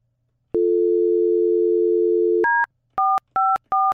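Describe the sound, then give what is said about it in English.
Telephone call tones with no voices as an outgoing call is placed: a steady low electronic hum for about two seconds, then a higher two-note beep and three short, evenly spaced dual-tone beeps. “But I told you to text her and give her a heads up that we're getting ready to call her.”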